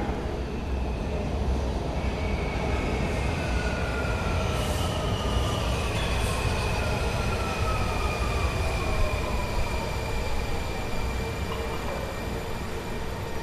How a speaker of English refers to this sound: Well, from that loud rumbling you just heard, you probably figured out that the trains arrive. So let's get on board.